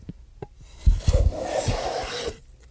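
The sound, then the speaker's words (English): A hand plane shaves a wooden fingerboard in one long, rasping stroke, starting with a few soft knocks and then a steady, breathy scrape that lasts over a second before stopping. No one speaks. “Planing a fingerboard.”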